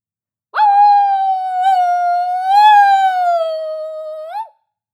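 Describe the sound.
A human voice, asked to bark loudly like a dog, gives what comes out more like a wolf howl: one long, sustained tone of about four seconds with rich harmonics. It holds steady, swells slightly in the middle, then dips and cuts off, loud and alone.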